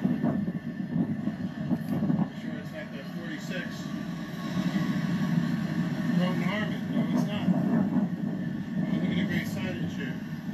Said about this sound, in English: The train's coming in, 125th Street. Pretty cool. Check it out.